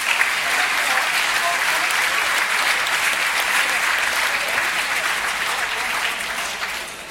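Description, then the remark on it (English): Sustained audience applause for the judges at an awards event, a dense, steady crackle of many hands clapping at once that holds strong for several seconds before tapering slightly at the end, with no voices over it. “So, before we reveal the winners, please show our judges your significant appreciation, ladies and gentlemen.”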